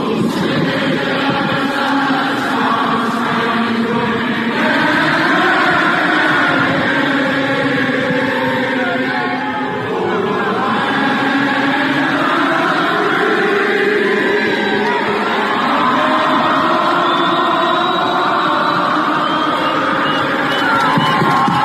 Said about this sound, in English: She's singing the national anthem. Technical difficulties, her microphone's out. So the crowd jumps in and finishes the entire song, and it's awesome. Here's a clip of the entire stadium singing.